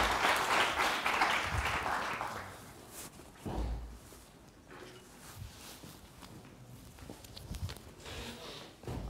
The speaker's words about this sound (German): Mit einem Applaus darf das nochmal dokumentiert werden.